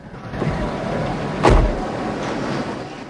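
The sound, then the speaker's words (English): A car door is pulled shut by a man seated inside the car, with a single solid thud partway through, set against a steady background hum; no one speaks. “Jim slowly straightens up in his seat again and closes the door.”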